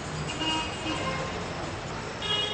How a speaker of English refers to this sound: In the real-life perpetual traffic jam that is downtown Cairo, there is a reverse upstairs-downstairs phenomenon.